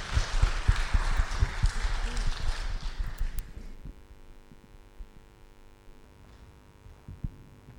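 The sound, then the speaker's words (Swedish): An audience bursts into dense applause for a few seconds, the clapping fairly loud, then it quickly dies away, leaving only a faint low hum and a few scattered sounds. “Stort tack, en applåd tror jag, för arbetet ni gör.”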